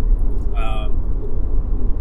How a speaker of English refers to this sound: Those of you watching will notice that we are in our car driving. Those of you listening will be like, what's all that weird other audio? It's the car.